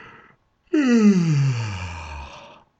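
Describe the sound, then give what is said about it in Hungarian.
A brief intake of breath, then a single long, drawn-out yawn, its pitch sliding steadily downward as it fades. A narrator is acting out a character's yawn while reading a story in Hungarian. “Ásította.”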